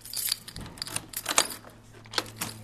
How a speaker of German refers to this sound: schließt die Tür zu einer Halle auf. Hier steht der Wellenkanal, eine Art überdimensionale Badewanne.